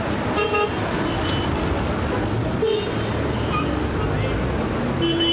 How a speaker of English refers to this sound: Aggressive street vendors hawk souvenirs as drivers jockey for space on roads clearly designed for camels rather than cars.